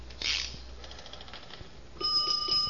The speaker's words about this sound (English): Yeah, on the box here. To send fire alarm, lift guard, then pull handle. Yeah, now a bell goes off in the box, but don't let it scare you.